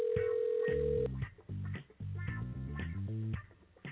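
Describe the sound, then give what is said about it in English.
An outgoing call rings through a tinny phone line: a steady held tone, then a short, bright melodic jingle of stepping notes. It is fairly loud with no voices. “If he answers the phone.”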